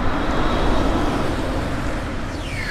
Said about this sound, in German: Achtung, so klingt ein Elektroauto, das mit Strom in einem Akku über Straße fährt.